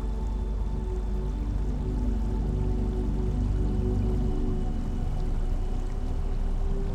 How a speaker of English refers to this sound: running water play in the background, like the notes of your favorite song. Let the melody of the water soothe you.